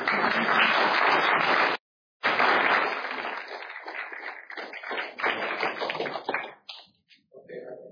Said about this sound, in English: Congratulations. I don't think it's wrong to clap.